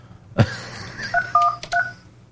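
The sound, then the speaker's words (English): A sharp clunk like a handset being picked up, followed by three short electronic keypad tones pressed at an uneven pace as the caller line of Republic Broadcasting Network is dialed, clear with no talking. “Now, let's try the caller line. If I can remember the number. I never dial it.”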